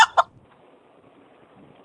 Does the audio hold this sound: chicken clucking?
yes